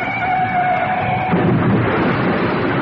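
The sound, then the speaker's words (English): A taxi cab crashes on reaching the Bismarck Hotel: a strained, whining tone like screeching tires or a horn gives way to a loud, dense burst of crunching, rumbling noise that stays heavy to the end. “Craven climbed slowly out of the wrecked cab, pressing a handkerchief to his forehead where it had crashed against the cab door at the impact.”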